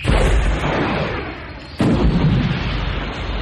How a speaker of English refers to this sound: She sideslipped to port, and as both streams of plasma cannon fire followed her, the fire from the starboard skip crossed the body of the portside skip.